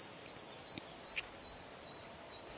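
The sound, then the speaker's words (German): Faint, high bird chirps repeat about five times at a steady pace against a quiet, airy background in a forest, with no voices. “Vielleicht nimmst du Vögel wahr oder andere Geräusche im Wald.”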